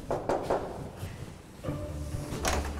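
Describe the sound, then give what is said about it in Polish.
A few sharp knocks on the door of the home of Polish Liberty MP Dobromir Sośnierz, followed by the rattle and movement of the door being handled and opened, with no one speaking. “Jesteśmy dzisiaj u posła wolnościowców Dobromira Sośnierza. Pukamy.”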